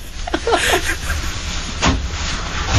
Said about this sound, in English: We got a little water pump thing that you operate with your foot, thank God